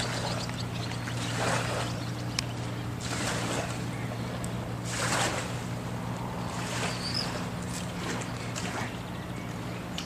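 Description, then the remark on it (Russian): A steady low motor drone runs throughout as boats go into the water, with repeated washes of splashing water and some wind noise on the microphone; no one speaks. “А вот здесь лодки на воду спускают.”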